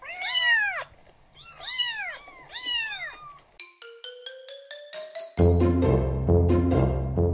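Three clear cat meows in a row, followed by a quick sequence of electronic beeps and then a louder, dense tonal burst; no one speaks.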